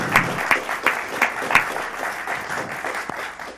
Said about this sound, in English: Yes, applause, please.